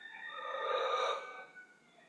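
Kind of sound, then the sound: human body sound, deep breath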